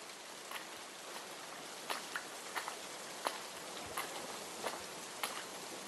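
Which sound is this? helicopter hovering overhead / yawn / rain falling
rain falling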